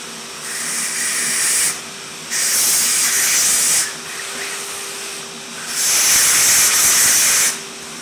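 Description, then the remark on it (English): A hammer drill bores into masonry in three bursts of harsh, hissing grind, each lasting a second or two, separated by quieter pauses with a steady motor hum underneath. “I should mention, I'm using a hammer drill.”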